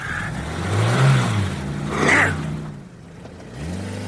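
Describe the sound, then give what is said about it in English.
A supercharged Plymouth car engine revs hard, its throaty drone surging twice in pitch and loudness, dipping briefly, then climbing again toward the end, with no voices. “Joe, that car. Aye, the supercharged Plymouth.”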